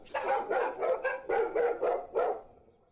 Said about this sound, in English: The dogs were now barking louder.